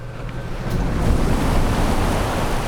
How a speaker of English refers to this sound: There was nothing but silence at first. Silence and waves washing tiny rocks to shore, still steaming from the red-hot boulder.